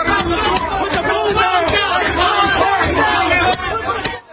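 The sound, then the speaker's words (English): A dense, loud crowd of looters rioting in Los Angeles roars and shouts over one another in a constant hubbub, with sharp bangs and cracks breaking through now and then before the noise drops off at the end. “let them listen to the sounds of what's happening in Los Angeles.”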